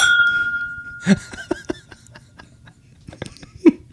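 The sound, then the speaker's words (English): Glasses clink in a toast to Juan Posada: a glass rings out with a clear sustained tone, followed by several sharp, scattered clinks of glasses touching, with faint chuckling in the background. “Let's cheers to him. Cheers to Juan.”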